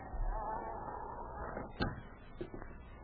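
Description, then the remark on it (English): An unlocked cabin door is opened quietly: a sharp latch click followed by a couple of softer knocks and rattles, set against a low, steady background hum. “This door isn't locked. It should be.”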